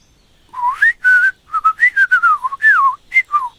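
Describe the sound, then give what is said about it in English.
Someone whistles an imitation of bird tweeting: a quick series of about a dozen short, clear chirps that slide up and down in pitch, fairly loud and with no talking. “So, you can talk to birds now, can you?”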